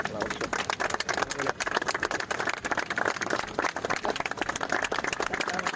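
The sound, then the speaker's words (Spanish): Sustained applause from a group after the Jarilla wildfire in Extremadura was stabilized, many hands clapping in a dense, steady patter that holds at an even loudness throughout without breaks. “Aplausos después de que se haya logrado estabilizar el incendio de Jarilla tras 17.000 hectáreas, 170 kilómetros de perímetro y 11 días de absoluto terror.”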